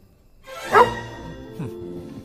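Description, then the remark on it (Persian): A small dog named Stubby gives a sharp bark, followed a moment later by a softer second yap, with a faint steady hum underneath and no talking. “البته یه چیزی حتمیه، وقتی کلونل ببینتش باید بگی بای بای سگه.”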